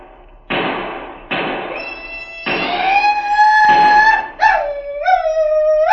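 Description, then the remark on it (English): Shrill Sioux war whoop yells from several voices, high and wavering, overlap and rise in loud layered cries, following a few heavy thuds at the start, as cattle are stampeded. “That was a Sioux war whoop if ever I heard one.”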